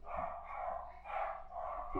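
Several dogs bark together in a dense, overlapping chorus, loud and steady across the whole stretch, with a few sharper yips standing out. No one speaks.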